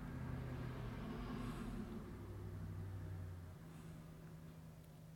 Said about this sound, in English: Do you hear the car driving by? That was just a car driving by. And there's another car driving by. And another one.